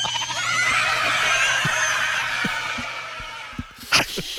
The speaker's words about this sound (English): Their show will be replaced by 4 hours of screaming goat videos.